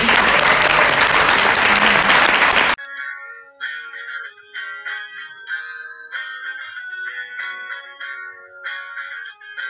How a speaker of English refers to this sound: I hope, most of all, that you've enjoyed these wines and the company of these winemakers. I would request kindly an applause for them. Thank you.